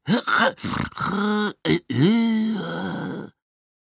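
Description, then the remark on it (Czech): A voice imitates a struggling vacuum cleaner with strained groans, grunts and sneeze-like bursts, several short broken sounds followed by a long, wavering, pitch-shifting moan that cuts off abruptly. “A tak místo obvyklého hučení motorku, jaké vydávají všechny ostatní vysavače, bylo slyšet takové podivné kýchání a přidušené hekání.”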